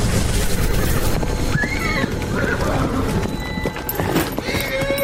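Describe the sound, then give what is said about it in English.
The hooves of a summoned mare clip-clop in a quick, steady rhythm, continuing throughout, with a short whinny-like call rising briefly over the galloping steps partway through. “Let me just summon my dame horse. She's always just a few seconds away.”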